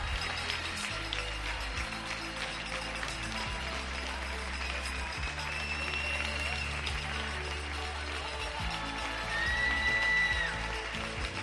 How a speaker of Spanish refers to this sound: Un día más, a las 8 de la tarde, miles y miles de españoles, supongo que podemos decir la palabra millones, aplauden a todos los que están trabajando por nosotros.